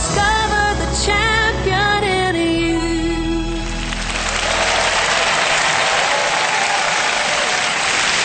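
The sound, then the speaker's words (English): A large audience at Lakewood Church breaks into loud, sustained hand clapping that fills the second half, taking over from a brief stretch of held musical tones at the start. “That hand clap is for you.”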